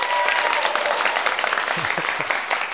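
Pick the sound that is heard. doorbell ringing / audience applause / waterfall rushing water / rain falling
audience applause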